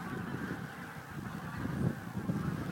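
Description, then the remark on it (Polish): A large flock of geese honks low overhead, a dense, overlapping chorus of calls passing by, with steady background noise and no one speaking. “Ale nisko nade mną przyleciało duże stado gęsi.”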